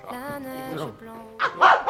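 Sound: dog barking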